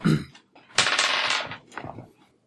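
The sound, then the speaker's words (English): Dice clatter across a hard tabletop for a perception check in a tabletop game, a brief rattle followed by a longer tumbling burst and a few final small knocks as they settle, landing on 19. Fairly loud, with no talking. “And … dice. 19.”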